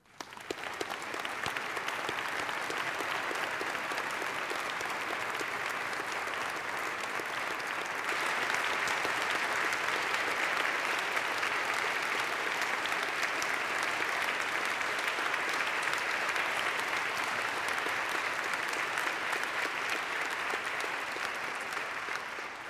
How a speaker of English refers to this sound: I will tell the bishop we prayed for him. I also want to tell him that we applauded him.